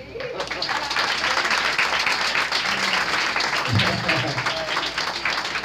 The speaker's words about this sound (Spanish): Vamos a dar un aplauso al personal técnico aquí